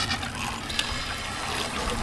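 Water sloshes and gurgles steadily in and out of the corrugation flutes of an origami boat folded from a single rectangular piece of corrugated plastic, a continuous watery burble with small splashes, fairly quiet.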